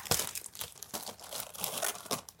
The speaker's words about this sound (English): All right, I got you guys gifts. Go ahead and open it. You guys have your own wrapping paper.